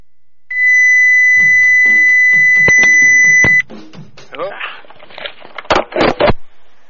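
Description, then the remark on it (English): A loud, steady electronic beep drones for about three seconds, harsh and piercing, on a phone line while a call is being conferenced, with muffled talking underneath; after it cuts off, voices continue briefly. “I tried to conference her with …, whoever that is, and it's got a really loud beep.”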